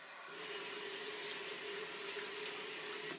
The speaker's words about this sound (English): Man, usually I hate shaving, but this is something about the warm water.